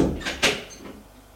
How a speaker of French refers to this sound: Arrivé à son étage, elle ouvre la porte de son appartement. Elle entre. Il ferme la porte.